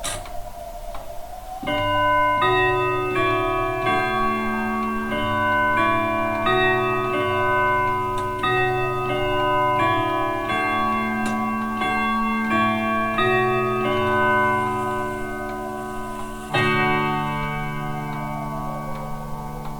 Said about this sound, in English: Was that a clock? Big Ben